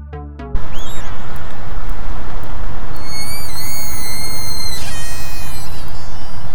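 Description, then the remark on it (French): Orca whistles: thin, high tonal calls that rise, fall and waver, with a cluster of overlapping whistles toward the middle, over a loud, steady wash of rushing noise. No one speaks. “Et oui, ce sont bien des sifflements d'orque.”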